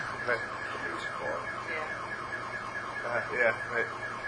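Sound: car alarm going off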